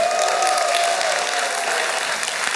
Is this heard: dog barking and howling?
no